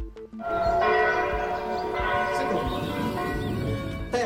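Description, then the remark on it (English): Church bells rung by Gen Z bell ringers keeping an ancient tradition alive ring out together in a loud, continuous peal, their overlapping strikes and long ringing tones filling the space with no voices present. “The Gen Z bell ringers, keeping an ancient tradition alive.”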